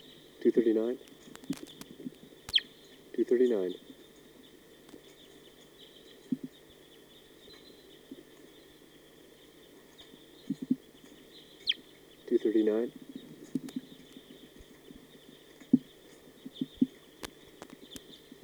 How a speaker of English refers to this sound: There might be three birds in the treetop.